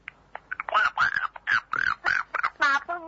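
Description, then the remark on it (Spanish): A young child imitates a duck, letting out a quick run of about seven short, nasal quacks, close to the microphone and fairly loud, with brief pauses between them. “¿Y cómo hace el pato?”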